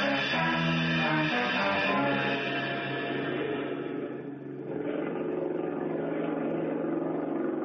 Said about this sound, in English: No, I better sit here where we can hear that outboard motor. It might cut off.